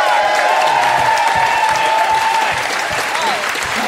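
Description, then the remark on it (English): A crowd applauds loudly and steadily for Ben Fordham on stage at an auction, a dense wash of clapping with some cheering and whoops mixed in, sustained for several seconds without letting up. “And a big round of applause for Ben Fordham.”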